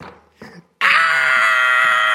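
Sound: children screaming and crying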